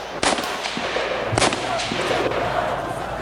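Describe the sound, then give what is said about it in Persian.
Several sharp gunshots crack out at irregular intervals, two loud bursts and a few fainter shots between them, over a steady, noisy background rumble: volleys of gunfire and bullets from the 30 Tir 1331 street uprising. “با دست کشیدن روی نقطه های شهید و طی کردن طول و عرض کلمات راه و وطن میشه صدای رگبار و گلوله هایی که از سی تیر 1331 به جا مونده رو شنید.”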